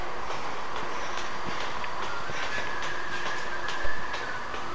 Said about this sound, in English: The train. Oh dear, I'm on the platform.